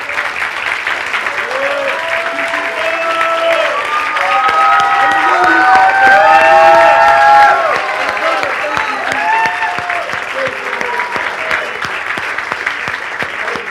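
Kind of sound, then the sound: crowd, audience applause and cheering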